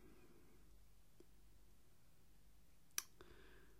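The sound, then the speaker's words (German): A crisp metallic snip from the small scissors of a pocket knife owned for 30 years, one sharp click near the end with a fainter one before it, with no talking. “Früher war noch eine Feder an der Schere, da schnitt sie besser.”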